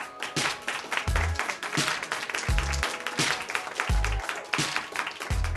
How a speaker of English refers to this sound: Next, we have a former professor of creative writing at Howard University. Let me introduce and give a warm round of applause